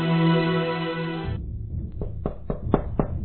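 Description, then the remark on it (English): A sustained, buzzing musical chord cuts off, followed by a series of about five sharp knocks on the door of Rex's apartment in the radio drama Scripts and Scruples, in a quick, uneven rhythm, with no voices. “At Rex's apartment, Agnes is alone when she hears a knock on the door.”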